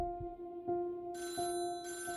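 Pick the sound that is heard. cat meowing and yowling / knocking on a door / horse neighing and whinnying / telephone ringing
telephone ringing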